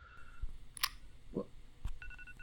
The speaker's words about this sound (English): What the hell is that sound? Oh, you have got to be kidding me. Of course it's her alarm.